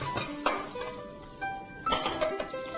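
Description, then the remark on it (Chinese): Tofu sizzles steadily in a hot pan as it is fried golden on both sides, a continuous crackle broken by a few sharp clinks of a utensil against the pan, with no talking. “好，这个豆腐呢，两边都煎黄了之后呢，我们来炒别的这个食材。”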